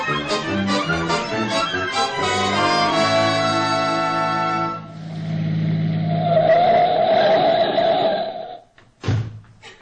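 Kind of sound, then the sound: vehicle, car driving off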